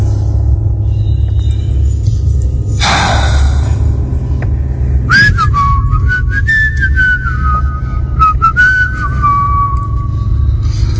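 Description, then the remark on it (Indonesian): A person whistles a slow, wavering tune from about five seconds in, the notes echoing in an empty room at work late at night, over a steady low hum, after a brief burst of noise. “Sesekali aku bersiul mengusir rasa sepi. Suara siulanku itu bergema di ruangan yang sudah kosong itu.”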